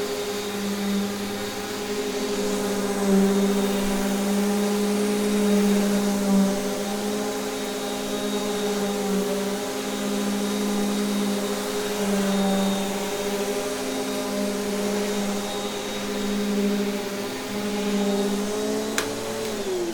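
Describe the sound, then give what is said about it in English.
A vacuum cleaner runs steadily with a constant motor whine and strong harmonic drone, holding an even pitch for the whole stretch before dipping slightly near the end. No voices. “What kind of vacuum cleaner is it?”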